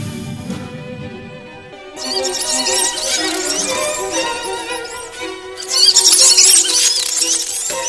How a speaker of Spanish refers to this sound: Los testigos afirmaban que durante la escalofriante experiencia, el hombre alado emitía chillidos como las de una rata.